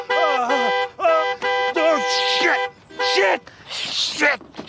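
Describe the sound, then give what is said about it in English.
A voice mimics a car horn with a string of loud, nasal honks, about six short blasts in an uneven burst, some bending in pitch, with breathy noise between them. “Oh, shit, no, what the hell are you doing, man? Stop honking.”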